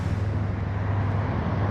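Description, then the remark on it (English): Steady low traffic rumble fills the scene, a continuous drone of engines from cars moving along 680 South by South Avenue, fairly loud and unbroken with no voices. “Let all these cars go.”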